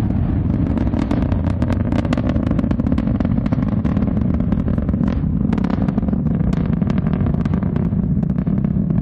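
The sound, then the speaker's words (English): An Ariane 5 rocket launch, heading towards the International Space Station, roars continuously, a deep, heavy rumble overlaid with dense, irregular crackling and popping bursts that tear through the sound without letup. No one speaks. “That is the Ariane 5 crackling into the sky and leaving behind it an enormous plume of steam and smoke and into the cloud and on towards the International Space Station.”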